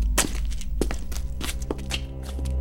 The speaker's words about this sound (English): She'd caught the sound of footsteps and pulled the sword out.